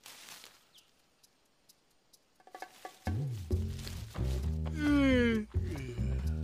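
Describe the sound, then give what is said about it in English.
After a few quiet seconds with faint clicks, an old ape comes out of his lair and gives a loud, deep, drawn-out yawn, groaning and wavering in pitch before tapering off. “The old ape comes out of his lair and yawns.”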